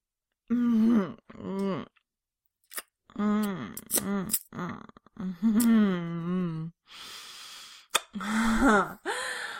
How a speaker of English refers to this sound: Oh, I see you're gasping again.